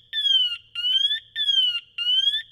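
A firefighter's PASS motion sensor sounds its warning after about 5 seconds of the wearer not moving: four loud, shrill electronic beeps in a steady repeating pattern, each about half a second long with short gaps between, and no voices.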